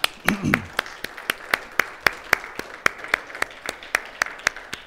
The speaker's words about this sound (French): Est-ce qu'on peut applaudir le Seigneur un peu?